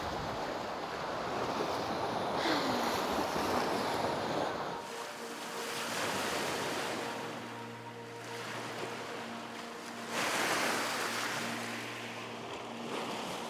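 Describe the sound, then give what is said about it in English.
Lake water laps and washes around a boat in slow, rolling swells, with a steady low hum joining partway through. Fairly loud, with no voices. “I wanted us to come out here. Yes. On the lake, on the water, because I know how important water is to you.”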